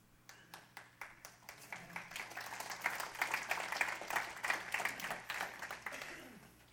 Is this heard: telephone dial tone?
no